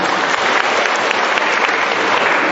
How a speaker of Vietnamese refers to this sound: Rồi, một tràng pháo tay để chúc mừng bà nha.